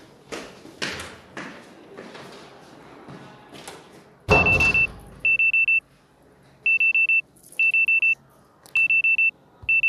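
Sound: alarm clock ringing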